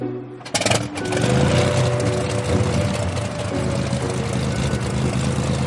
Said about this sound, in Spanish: El aviador había escogido precisamente ese momento para despertarse y poner en marcha el motor.